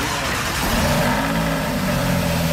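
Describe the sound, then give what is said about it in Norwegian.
A four-cylinder car engine revs, a loud, steady mechanical drone with a rough throaty hum that holds for a few seconds, with no voices. “Ja, sådan lød min bil i går.”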